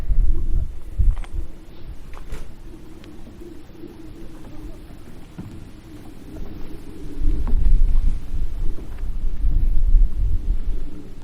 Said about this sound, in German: Tja, hier höre ich jetzt zumindest kein Auto, ist schon mal gut. Aber ein Flugzeug höre ich dafür von irgendwoher.